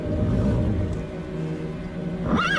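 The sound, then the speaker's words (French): A dense, steady low rumble fills the background, then one of two panicking horses, a white and a black, lets out a shrill, rising whinny near the end, loud, as the white horse is shot. “Les deux chevaux s'affolent.”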